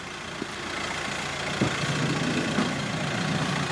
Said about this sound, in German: Mit laufendem Motor wartet ein Postauto auf dem Dorfplatz vor der Schule.